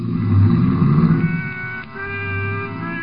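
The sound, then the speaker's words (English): A car engine revs loudly and pulls away, its droning whine holding steady, dipping briefly, then surging again as the vehicle accelerates. No voices. “he climbed in his car and drove off fast.”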